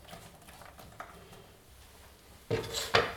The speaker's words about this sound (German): Okay, das Öl ist heiß. Das heißt, da kommt jetzt als allererstes rein die Zwiebel.